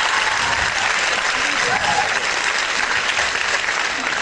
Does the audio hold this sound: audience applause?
yes